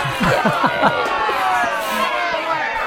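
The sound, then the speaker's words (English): A crowd cheers and roars in a steady, dense wash of noise, with a few raised voices and shouts rising above it at the start before the cheering carries on evenly. “The crowd erupts that I haven't got a gripe.”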